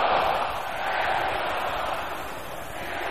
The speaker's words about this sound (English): Brothers, shout it loud and clap.